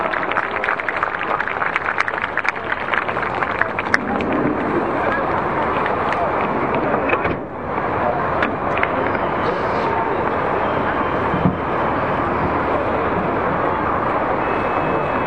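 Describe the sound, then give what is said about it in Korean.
Sustained, dense applause from a large audience at a labor union rally, welcoming a union vice-chair to speak, a steady wash of many hands clapping with scattered sharp claps and crowd noise running throughout, dipping only briefly midway. “여러분 박수 만져주시기 바랍니다.”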